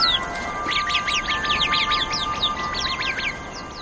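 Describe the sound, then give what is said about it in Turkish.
A busy flock of Arabian babblers in the hot, dry Middle East chirps in rapid, overlapping bursts, a steady stream of high, sweeping calls, with no voices present. “Arap kuşları olarak bilinen bu küçük canlılar, bu zorlu ortamda hayatta kalmayı başarırlar.”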